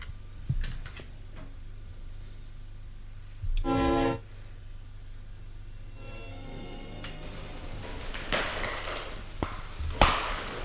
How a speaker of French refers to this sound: La porte qui s'ouvre.